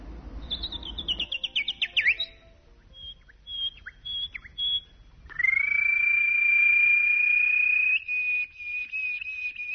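Small birds chirp: a quick tumbling run of high notes, a few short separate tweets, then one long, steady, high trilling whistle that carries on to the end. No one speaks.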